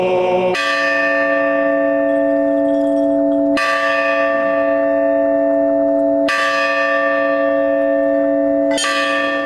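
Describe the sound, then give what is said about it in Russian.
A joyful peal of church bells rings out loud, with four strong strikes about three seconds apart, each tone humming on and overlapping the next, with no voices. “Теперь ивановцы могут сами создавать радостный перезвон.”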